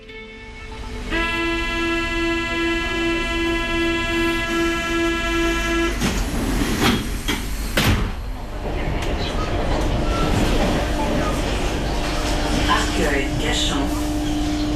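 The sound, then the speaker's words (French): An RER suburban commuter train runs by, starting with a steady, high electric whine over a deep rumble, then a few sharp clanks before turning into a continuous rattling roar. “Ces dernières semaines, vous avez passé des heures dans le RER pour aller à la rencontre de ces femmes qui se mobilisent pour sauver leur territoire dans les banlieues.”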